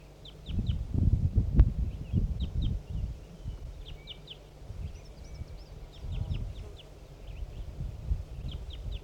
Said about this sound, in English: Some wild crossbills are coming in again. Here comes one.